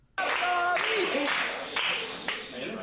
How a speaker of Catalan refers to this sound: M'agradaria aquest moment que hem escoltat aquesta ovació forta. També ha tingut un final una mica abrupte, com no pot ser d'altra manera. Aquest ha estat el final del moment de l'ovació.